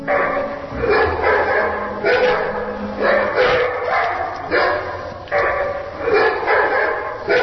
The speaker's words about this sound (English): There is a dog in the lobby running for mayor of Oakland.